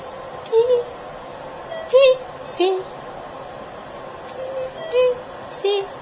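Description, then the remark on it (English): Short electronic beeps from a chemotherapy infusion pump in a hospital, on the last bag of the last day of chemo, sound repeatedly at uneven intervals, each a brief mid-pitched tone over a steady low background hum, with no one talking. “My 5 days of chemo are over. You hear that beep?”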